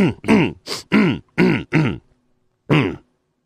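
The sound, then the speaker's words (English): A person clears their throat with a rapid series of six harsh, rumbling grunts, then pauses before one final throaty rasp, fairly loud. “Let me clear my throat.”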